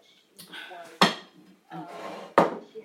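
A kettle is picked up and put on with two sharp metallic clunks, each following a short stretch of scraping and rattling, fairly loud.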